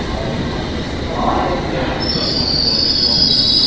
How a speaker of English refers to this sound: And just 2 minutes behind it, here's the Metropolitan Line train, which I might actually get on.